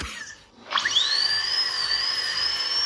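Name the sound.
dentist's drill whirring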